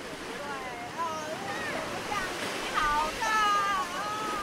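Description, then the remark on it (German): Steady surf washes up on a white sand beach in Taiwan, a continuous broad rush of breaking waves, while three small children in T-shirts and shorts call and squeal in high voices as they hop through the waves. “Drei kleine Kinder hüpfen in T-Shirt und kurzen Hosen durch die Wellen.”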